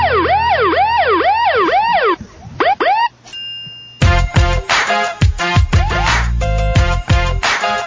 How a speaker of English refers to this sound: Is that the ambulance? Oh, gosh. I hope not.